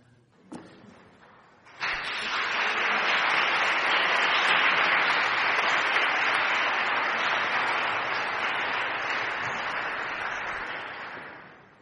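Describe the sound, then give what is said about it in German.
An audience at a church service breaks into sustained applause after a brief quiet moment, many hands clapping in a dense, steady roar that holds for about ten seconds before slowly thinning. “Es war schön, dass ihr gerade alle so geklatscht habt, und aus einem anderen Anlass wollen wir es jetzt noch ein zweites Mal tun”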